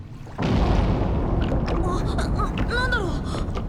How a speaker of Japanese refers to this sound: 水中衝撃波。爆発が近いわ。